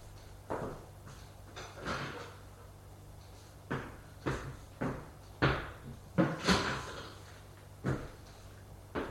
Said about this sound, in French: On a frappé à la porte. Entrez.